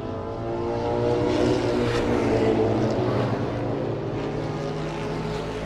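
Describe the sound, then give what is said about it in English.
A pace car's engine roars steadily during hot laps around Bristol Motor Speedway, a half-mile track in Bristol, a loud, continuous droning hum with layered tones that swells slightly, then holds for several seconds. No one speaks. “Here in the background is somebody doing hot laps at the raceway.”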